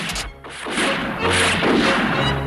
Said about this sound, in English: Bakaz's men exchange fire with soldiers lined up along the top of the residence's wall.